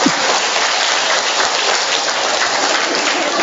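Steady, dense applause from an audience, called for by a speaker, with a continuous wash of clapping at even loudness throughout and no voices standing out.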